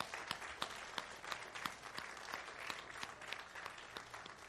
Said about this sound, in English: Let's give a round of applause for these three this morning.